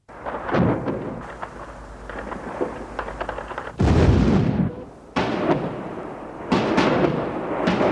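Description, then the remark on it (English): Artillery shells fired from the Christian East explode in Muslim West Beirut during Lebanon's civil war in 1989: four loud, irregular booming blasts, each with a crackling burst and a long rumbling tail, over a steady low background rumble. No voices. “As shells poured into Muslim West Beirut from the Christian East, the population was trapped in the rush hour crowded streets.”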